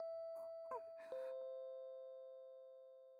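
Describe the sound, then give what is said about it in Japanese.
A doorbell chime at a home's front entrance rings out: two tones, ding then dong, the second note lingering and slowly fading for a few seconds after a few soft breathy sounds. “チャイム鳴ったね。”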